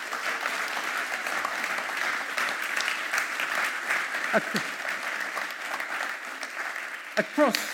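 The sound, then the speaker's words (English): A crowd applauds steadily for several seconds, a dense, even wash of clapping with a couple of brief voices calling out near the end. “Let's give them a clap.”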